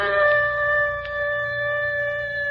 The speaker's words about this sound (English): Hear that, gang? It's the howl of a wolf leading his pack to the kill.